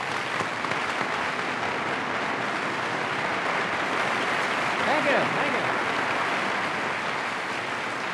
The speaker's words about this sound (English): Could we have a terrific round of applause for a very wonderful person?